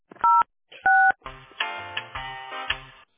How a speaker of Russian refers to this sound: Если вы знаете внутренний номер сотрудника, наберите его. Или оставайтесь на линии.